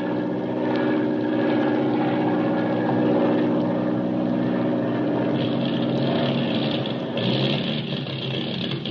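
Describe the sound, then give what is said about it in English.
A propeller airplane engine drones loudly and steadily throughout, its rough, throbbing hum running slightly uneven with motor trouble as the plane flies over the Indian Ocean toward Australia, with no voices over it. “We've got motor trouble. Hey, you mean this airplane's going to let us down in the middle of the Indian Ocean?”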